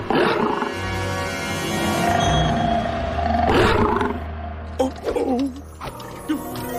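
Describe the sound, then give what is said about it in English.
A lion gives a deep, rumbling roar that swells loudly for several seconds, then breaks into shorter grunting growls near the end, powerful. “Okay, so what do you do when you come face to face with a wild lion?”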